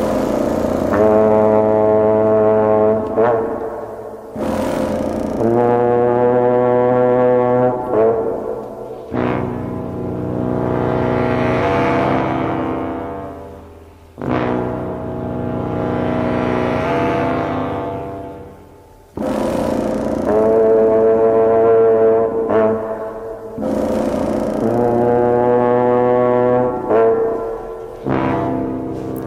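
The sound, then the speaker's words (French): A serpent, the old bass wind instrument, plays long, growling low notes with a rich buzzy tone, rising and falling in slow phrases within the orchestral score of the 1959 film Journey to the Center of the Earth, describing the huge reptiles at the centre of the Earth. No one speaks. “Il l'utilise ici pour décrire musicalement les énormes reptiles présents au centre de la Terre. Merci Hirschtar, on écoute ce serpent tout de suite.”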